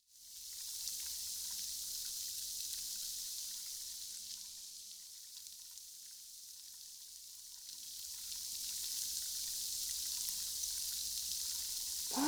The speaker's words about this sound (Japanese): こうして耳を寄せると、小さな泡が弾ける音が聞こえるわよ。